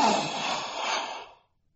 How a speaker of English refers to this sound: Klaus ended his sentence in a gasp.